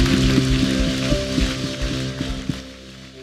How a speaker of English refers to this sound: Let's clap our hands to welcome all of those people to the family of God today.